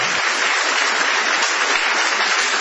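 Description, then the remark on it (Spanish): A crowd applauds steadily, a dense wash of clapping hands that stays loud and even throughout, with no voices rising above it. The audience is in the hall of Radio del Plata, applauding to greet Patricio Barton. “Señores, vamos a extender el aplauso para saludar a nuestro querido Patricio Barton.”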